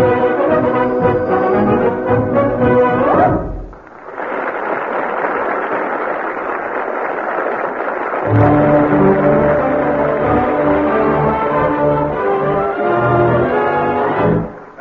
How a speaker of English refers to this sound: That fanfare heralds another installment in the adventures of... that great lover of the silent screen.